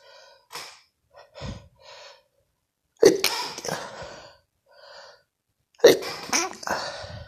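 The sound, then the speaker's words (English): Two loud sneezes from a person with allergies, each preceded by quick, soft wind-up breaths and gasps, with the second following a few seconds after the first. “As soon as I hit record, I feel like I got to sneeze.”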